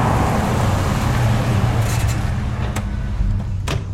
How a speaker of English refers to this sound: Veronica sees a truck approach in the distance, and behind it, another vehicle, a Land Rover, follows it closely